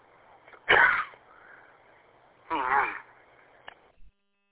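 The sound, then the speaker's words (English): Two loud, harsh coughs about two seconds apart, each a short raspy burst followed by quiet, with no talking in between; a person coughing after a small gnat flew down their throat. “I'm having a coughing fit.”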